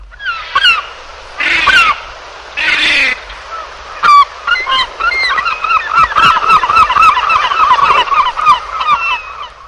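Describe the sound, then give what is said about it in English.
Loud herring gull calls: harsh, ringing squawks and a rapid laughing series of yelps, several birds overlapping, outdoors, with no talking. “Herring gull.”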